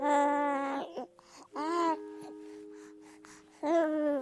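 A newborn baby cries in three loud, wavering wails, with a quieter pause of small whimpers and breaths between the second and third cry.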